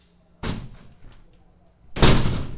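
A front door slams shut with a sharp bang, followed after a short pause by a second, louder and fuller slam with a brief rattling decay, with no voices.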